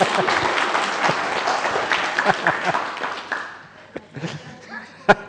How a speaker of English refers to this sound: And a big round of applause for my sister. Thank you.